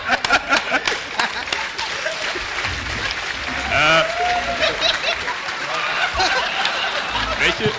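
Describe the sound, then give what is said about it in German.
An audience claps in a steady scattered patter during a prize giveaway, mixed with chuckles and murmured voices from the crowd, moderately loud. “Da klatscht ihr?”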